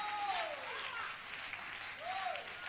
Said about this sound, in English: Oh, clap your hands, people. In the house of God.